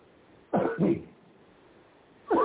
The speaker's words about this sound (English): No, that wasn't it. Let me clear my throat. Let me clear my throat. Okay.